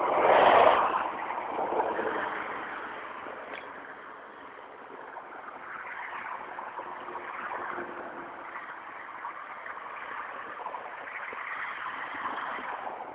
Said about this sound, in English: Yeah, Monday morning traffic. Woohoo.